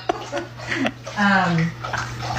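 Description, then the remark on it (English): A dog laps water from a bowl, irregular wet slurps and splashy licks over a steady low hum, with a person's voice briefly rising over the lapping midway. “You're hearing my dog. Her dog bowls right now.”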